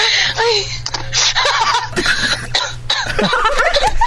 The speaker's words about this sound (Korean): 지가 웃다가 지가 기침까지 해 길기도 하네